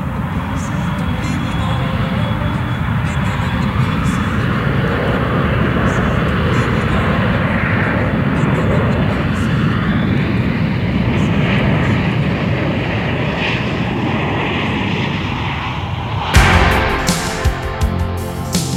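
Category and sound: vehicle, airplane taking off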